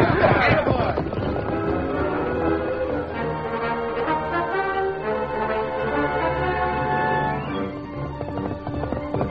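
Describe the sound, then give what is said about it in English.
Horses galloping through the night as the masked man rides the great horse Silver, pursued by a lawman on horseback, with a steady drumming of hoofbeats that holds at an even loudness throughout, set against a dense, sustained tonal backdrop. “The masked man raced through the night, but not at top speed.”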